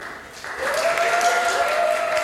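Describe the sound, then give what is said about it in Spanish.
An audience breaks into applause for Team Alcohol at the end of a contest round that the audience decides, swelling after a brief pause and holding steady, a dense crowd of clapping with a drawn-out cheer carrying over it. “Ok, aplauso para Team Alcohol.”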